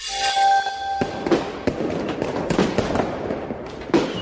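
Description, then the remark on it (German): Fireworks crackle and pop in rapid, irregular bursts, with a whistling tone at the start followed by loud sharp bangs and a steady crackling wash. No one speaks. “Feuerwerk.”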